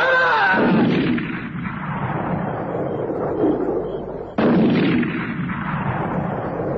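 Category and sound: impact, gunshots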